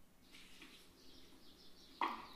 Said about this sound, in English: I woke up to birds chirping so loudly that I stood up and I recorded it.